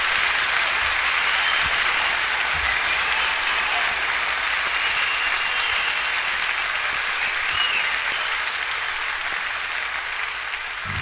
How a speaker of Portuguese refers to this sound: Y así, con esos aplausos, finalizaba esta escucha que hemos estado haciendo de esta grabación en vivo